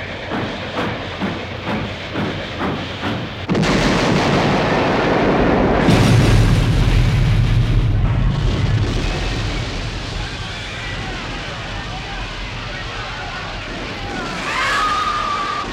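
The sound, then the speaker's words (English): Rhythmic clattering of two approaching trains, each going about 70, gives way to a loud, roaring crash with a heavy low thud and grinding metal, fading into rumbling debris before a brief high metallic screech. “The low thud of the train's contacting should have been clear and solid, without booming or bottoming.”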